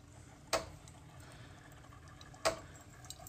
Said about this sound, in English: Now, to that button, which is on the front right-hand panel, seems to be the same on all these Tassimo machines, and you just push it once, and you hear it working. So it takes a couple of seconds to get going.